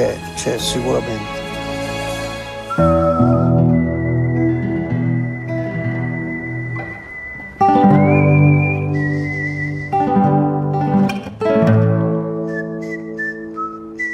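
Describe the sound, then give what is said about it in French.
A person whistles a slow melody of long, sustained notes, clear and prominent above a rich, swelling orchestral backing that rises and falls in sections; the whistled theme is from the music of Sergio Leone's western film For a Few Dollars More. “ne chante pas, il siffle.”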